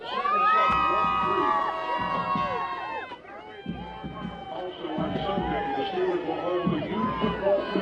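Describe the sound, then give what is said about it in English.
A crowd of fans cheers loudly and continuously, a dense wash of overlapping shouts and whoops with high, wavering voices, briefly dipping before swelling back up, at an event where Joey Porter signs autographs at the fence. “Well, you sounded like you guys wanted to give us a cheer. Let's hear it.”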